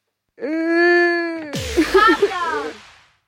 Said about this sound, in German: Trauer, es klang irgendwie wie Weinen. Ich spiel's euch nochmal vor. Genau, da hat jemand geweint, ist sehr traurig.